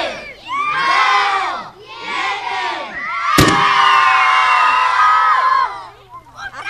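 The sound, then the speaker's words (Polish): A group of schoolchildren at a science demonstration shout two loud counts in unison in Polish, then a sharp bang cracks out as an acetylene and air mixture explodes, and they break into sustained, excited cheering and whooping that fades after a few seconds. “Liczymy! 3!”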